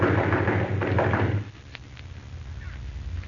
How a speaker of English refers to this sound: I'll bang on the door.